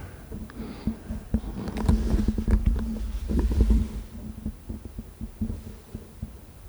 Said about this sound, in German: Jetzt wird's still. Jetzt wird's still, weil unser Studiohund hier schnarcht. Unmöglich.